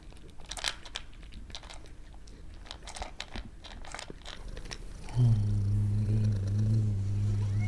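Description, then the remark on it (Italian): A cat crunches dry kibble served with tuna, with rapid, irregular bites for about five seconds before a steady low hum takes over and the chewing fades. “Dammi quel tonno. Sì, mettici pure le crocchette, basta che ti dai una mossa.”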